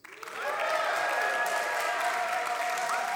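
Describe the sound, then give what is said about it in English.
An audience bursts into loud, sustained cheering, many voices whooping and shouting together over a wash of clapping, swelling quickly at the start and holding steady throughout, cheering to vote for noisy eaters as the thing to get rid of. “So firstly, cheer for noisy eaters.”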